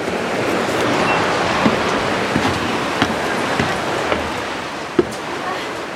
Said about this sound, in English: Well, this is so weird because it's exactly the same looking as all the other cliffs I've been walking along this whole day. It's just, yeah, this particular one has a big-ass waterfall.